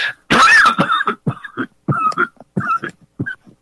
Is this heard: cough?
yes